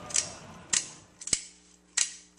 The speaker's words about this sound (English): that they searched people at the gates for their Kodaks, that's what cameras were called, and made people pay a steep fee to use them at the fair, to keep the number of shutter clicks down, to control this sound.